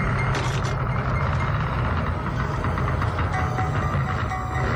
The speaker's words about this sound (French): J'entends quelqu'un qui vient là, une moto, qui peut venir comme ça. Y a ton neveu qui vient à moto, vieux Cotopangé.